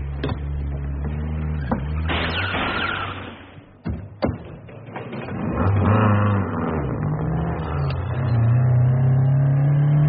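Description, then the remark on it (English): A getaway car's engine idles with a few sharp knocks and thumps, then revs hard and speeds off, fleeing pursuers, its droning pitch climbing steadily as it accelerates. No one speaks. “Drive like the devils in hell went after you.”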